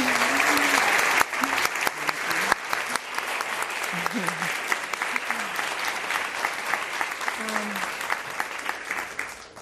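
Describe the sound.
A crowd breaks into sustained, loud applause, dense clapping holding steady for several seconds with occasional cheers and voices mixed in before gradually thinning toward the end.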